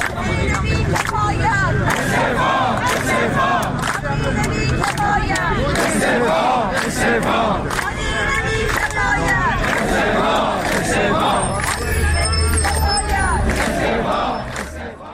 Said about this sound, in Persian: بازنشستگان تامین اجتماعی در شوش نیز در مقابل اداره تامین اجتماعی این شهر، در عراق در مقابل استانداری مرکزی و در تهران در مقابل سازمان برنامه و بودجه گرد آمدند. شعار تجمع کنندگان در تهران را می‌شنویم.